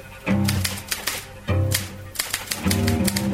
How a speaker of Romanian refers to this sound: O dactilografă bate la mașină concluziile comisiei de decriptare. Mașina de scris produce un zgomot amenințător.